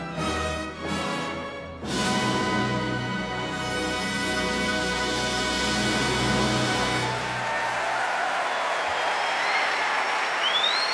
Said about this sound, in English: here at the Proms, and applause from conductor John Wilson and his orchestra.